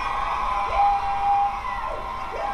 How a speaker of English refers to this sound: Stop cheering.